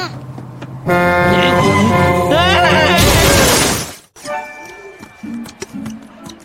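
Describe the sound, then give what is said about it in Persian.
A loud, sustained horn blares with bright harmonic tones, then a school bus crashes in a heavy burst of shattering glass and breaking metal, leaving the bus completely wrecked, before fading into quieter scattered rattles and a brief tone. “دادا اتوبوس مدرسه کاملا داغون شده، به نظرم وقتی یه وسیله نقلیه رو بسپرن دست یه عروسک گردون همین میشه دیگه.”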